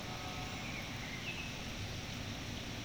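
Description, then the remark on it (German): Rain falls in a steady, even hiss with no pauses, a soft continuous patter over a low rumble, with a couple of faint bird chirps drifting through. “Es regnet und die Vögel singen unverdrossen weiter.”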